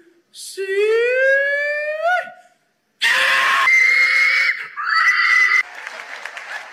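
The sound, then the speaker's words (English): A loud, rising human yell of a hog call, followed after a short pause by a second long drawn-out shouted call with crowd cheering and applause underneath. “So that's hog calling for you.”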